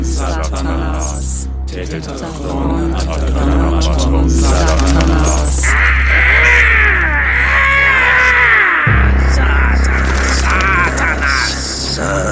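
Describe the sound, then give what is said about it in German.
A bird perched on a pole carried by a figure in a long black hooded cowl calls repeatedly with harsh, crow-like caws, fairly loud, over a steady low droning rumble that runs throughout. “Und sieh nur, der Vorderste trägt eine Stange, auf der ein Vogel sitzt.”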